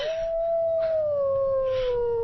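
A young wolf howls in one long, thin, steady note that slowly slides lower, heard alone with no voices.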